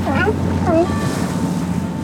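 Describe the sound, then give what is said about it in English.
A rocking boat motors over ocean waves with a steady, loud engine rumble and wind rush, heading past the Point Bonita Lighthouse in the Marin Headlands and a yellow buoy covered in sea lions, bound for the Farallon Islands. Brief wavering calls or voices rise over the noise near the start. “We head up past the Point Bonita Lighthouse in the Marin Headlands, past a yellow buoy covered in sea lions.”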